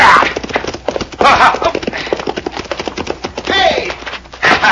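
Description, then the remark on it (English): Horse hooves clip-clop in a quick, steady rhythm, loud, with brief bursts of voice rising over the clatter now and then, as a rider on the horse Diablo catches up with another rider to rope him. “How does it feel to be roping your horse, hombre?”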